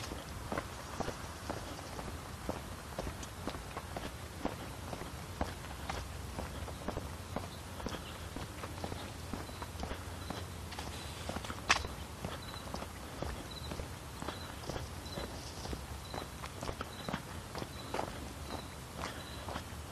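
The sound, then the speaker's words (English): Steady footsteps of a person on a morning walk outdoors at an even, brisk pace, each step crunching against a low outdoor rumble, with faint chirping birds in the background. “I'm still walking. Complaining every step of the way, but I'm still walking.”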